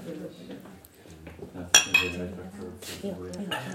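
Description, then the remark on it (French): Glasses clink together in a toast, one sharp bright chime with a brief ringing tail and a softer touch right after, set against a low murmur of voices and clatter. “Trinquons.”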